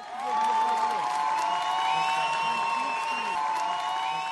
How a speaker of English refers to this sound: pulls a long, shiny ponytail onto her shoulder, and the crowd began to cheer.